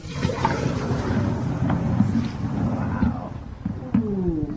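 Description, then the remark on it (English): Liquid nitrogen is poured into ice cream batter in a large stainless steel pot with a loud, steady roaring hiss and churning rumble that lasts throughout, broken by a few faint clicks. “I poured the ice cream batter into a large stainless steel pot and began to pour the liquid nitrogen.”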